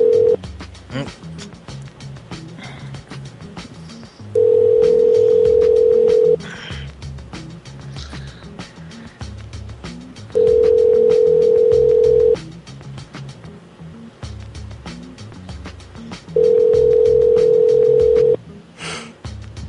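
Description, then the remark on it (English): A phone line's ringing tone sounds three times, each steady buzzing tone lasting about two seconds with long pauses between, while people talk quietly underneath, on a call placed to Come and Go in Colorado Springs. “Do you want to call we've that?”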